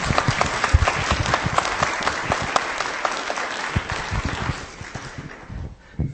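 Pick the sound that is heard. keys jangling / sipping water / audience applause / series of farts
audience applause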